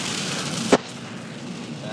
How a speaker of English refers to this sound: The entire rest of this audio boo is going to be made up of the natural sounds of rain on the windscreen of a Opel Vectra car.